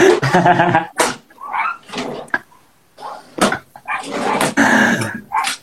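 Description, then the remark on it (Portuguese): An enraged dog snarls and barks in a rapid series of loud, harsh bursts, rough growls running between sharp barks, with brief pauses before another furious volley. “O cachorro tá enfurecido.”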